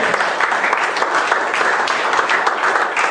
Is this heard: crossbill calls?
no